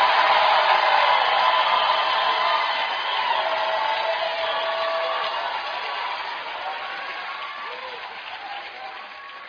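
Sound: audience screaming and shouting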